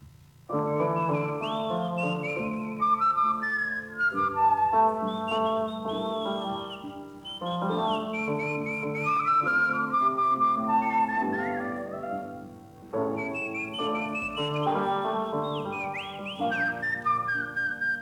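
A whistled melody intertwines with a flute in a lively duet over a steady instrumental accompaniment, the two lead lines bright and close, playing continuously in phrases with brief pauses.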